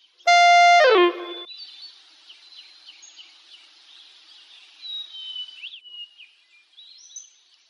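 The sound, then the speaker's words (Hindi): One loud, steady whistle blast lasting under a second, signalling students to sit down during a stand-up and sit-down game. It cuts off sharply, leaving faint bird chirps and twitters in the background. “Students, क्या आपने sit down के साथ सीटी की आवाज सुनी?”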